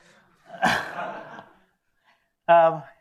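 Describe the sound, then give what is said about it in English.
Mariana's dog barks twice: a rough, drawn-out bark followed after a short pause by a sharper, higher-pitched yelp. “That was Mariana's dog.”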